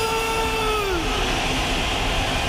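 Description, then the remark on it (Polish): A short goal jingle of the Radio Poznań sports show W Sportowym Rytmie: a steady, loud roar like a stadium crowd, with a bright tone gliding downward in pitch over the first second before the roar carries on alone. “A teraz na antenie Radia Poznań audycji w Sportowym Rytmie musi zabrzmieć taki właśnie dżingiel.”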